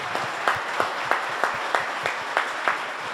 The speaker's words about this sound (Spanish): Y les voy a pedir un tercer aplauso para todo el equipo de la feria que le meten una garra. Así que, por favor.